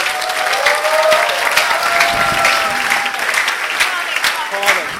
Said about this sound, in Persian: بیا عزیزم تشویقش کنی.